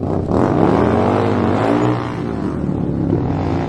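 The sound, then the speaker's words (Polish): A motorcycle engine revs loudly, its pitch climbing and dipping in a steady throaty roar across a few seconds, with no voices. “Kiedy wsiada się na motocykl, najwspanialsze jest towarzyszące podróży uczucie swobody.”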